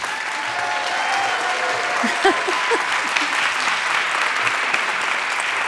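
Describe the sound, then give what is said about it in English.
A large Sunday morning audience applauds steadily to welcome poet Sharon Olds and Krista Tippett, a dense, even wash of clapping hands that holds at full strength throughout, with a few faint voices and brief louder claps poking through. “This is a lively Sunday morning crowd,”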